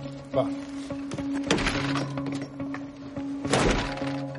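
A flat's door being forced open during a court-ordered eviction: three heavy, booming blows land at uneven intervals, each with a splintering crack, while a steady low hum runs underneath.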